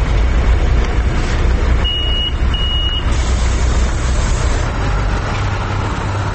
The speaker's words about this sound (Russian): Это автобусная остановка в 7:30.